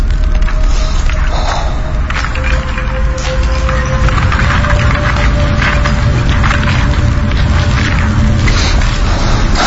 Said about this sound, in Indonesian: Ada yang naik menghampiriku di tower itu. Ku tengok ke bawah, tidak terlihat siapa-siapa. Namun suara langkah kaki yang menaiki tangga itu terdengar kini semakin mendekat.